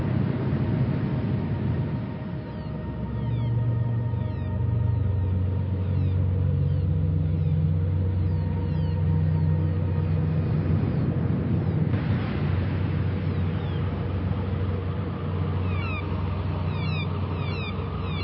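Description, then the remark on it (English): A steady, humming sci-fi spaceship drone, called a Pleiadian ship, with slowly shifting, warbling tones fills the whole stretch, while faint bird chirps flicker in the background. No one speaks. “Can't beat a good Pleiadian ship with birds in the background.”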